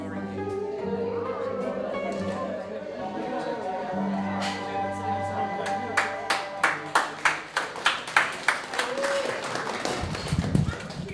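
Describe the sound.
A steady run of about a dozen sharp hand claps, evenly paced a few per second, rising over a murmur of voices and a low sustained hum, then breaking off into chatter.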